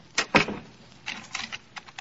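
household object, door being locked

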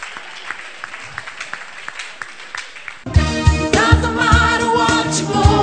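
crowd, audience clapping hands

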